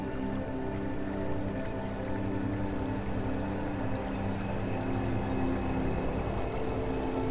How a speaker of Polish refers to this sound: Zbliż się do tej płynącej wody, do tego strumienia. Idąc wzdłuż jego biegu, dochodzisz do wodospadu ciepłej wody.